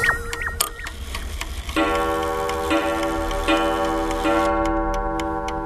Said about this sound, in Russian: Швейцарский домик, шале. Эти часы Марии Николаевне преподнес, по легенде, преподнес ее муж Николай Петрович Шубинский.